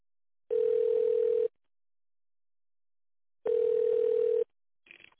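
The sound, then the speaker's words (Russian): Telephone ringback tone while waiting for an answer after calling the company Natsionalnye Tekhnologii: two steady one-second beeps at a single mid-low pitch, separated by a long silent pause, followed by a faint brief crackle at the end. “Пожалуйста, наберите внутренний номер в тональном режиме или дождитесь ответа.”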